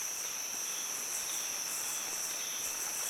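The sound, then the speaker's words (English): A dense chorus of rainforest insects chirps steadily, a continuous high-pitched cricket-like trill with a soft hiss beneath it, unbroken throughout and with no voices. “Start to notice the sounds and aromas of the plants and animals around you. Insects and birds.”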